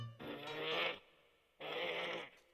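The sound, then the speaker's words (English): A leopard near a flock of sheep lets out two loud, funny bleating cries in quick succession, each a strained, nasal burst with a brief pause between them, with no talking. “Hey, it's not the sheep making that sound. It's that leopard over there.”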